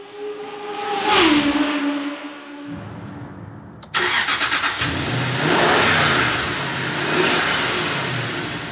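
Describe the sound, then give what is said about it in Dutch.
The V8 engine of a Jaguar XK8 convertible cranks and catches, settles into a low idle, then roars into loud, sustained revving, with no voices over it. “We gaan rijden in de Jaguar XK8, de cabrio-versie, de opvolger van de beroemde Jaguar XJS”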